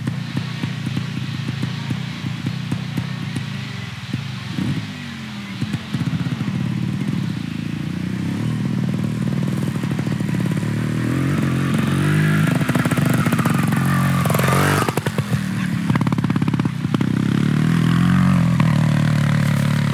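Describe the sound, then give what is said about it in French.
A trial motorcycle engine revs steadily, its pitch rising and falling in repeated throttle bursts, with a sharp climbing sweep near the end. No one speaks. “Il va prendre sa moto. Son trial et il va aller les voir.”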